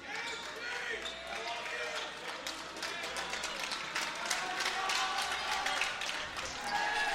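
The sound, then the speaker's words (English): A student section crowd at a basketball game cheers on the Lakers and chatters steadily during the third quarter, with sharp basketball bounces and sneaker squeaks cutting through the noisy, echoing din. “The Lakers student section is cheering on the Lakers.”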